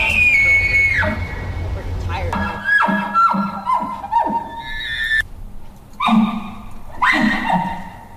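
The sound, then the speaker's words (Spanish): Human voices imitating moose calls in a moose-call imitation contest, a string of strained, nasal bleating cries that bend downward in pitch, loud and repeated several times with short pauses, almost like a whinnying horse or yelping dog. “Encontré que resulta que existe un concurso de imitación de sonidos de alce, que es una de las cosas más desagradables que he oído en mi vida.”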